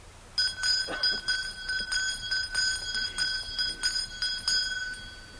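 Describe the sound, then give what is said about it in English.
A handheld bell is rung by a Nez Perce spiritual man before a lined-up gathering of Nez Perce people and Forest Service staff. It rings continuously for about five seconds, shaken in a steady, quick rhythm, each stroke adding to a bright, high, sustained metallic tone. No one speaks. “When the Indians and the Forest Service people had lined up, he lifted a bell.”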